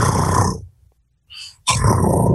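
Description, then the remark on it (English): A voice imitates a loud cheetah purr: two rough, rumbling bursts separated by a short pause with a quick breath in between. “Cheetahs purr so loudly that many people think it's a growl.”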